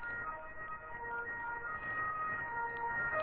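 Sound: siren passing by outside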